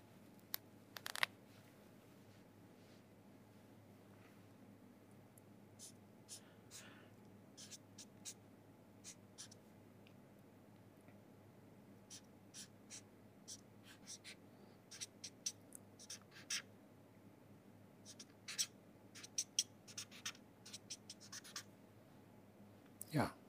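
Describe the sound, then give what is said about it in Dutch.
A pen scratches across paper in short, irregular strokes as someone writes down a quotation, soft, with brief pauses between bursts of writing over a steady low background hum. “En dan mag dat doen door een citaat op te schrijven.”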